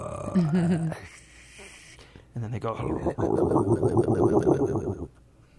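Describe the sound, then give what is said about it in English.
After a few spoken words, a person vocally imitates an alligator: a low growling roar, a brief breathy hiss, then a long rough gurgling rasp, fairly loud. “What does an alligator sound like? Yeah, I was thinking they make kind of a roar and then a hissing noise and then kind of a gurgly sound.”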